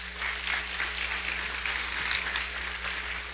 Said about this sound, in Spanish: Así que somos Iglesia Cristiana Josué, quien le damos la bienvenida con un aplauso.